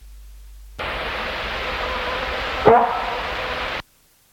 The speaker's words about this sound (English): It's just when that bird is vocally active, searching for South Island Kōkaku then becomes a real obsession. 5, deer bark or bok call, 2nd of December 1984.